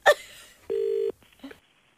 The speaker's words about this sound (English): Someone ringing. Yeah, the phone was going.